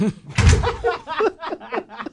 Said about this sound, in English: Because that door sounds Foley'd in. It's a good door, but it's on a set. It sounds like that. I know it does.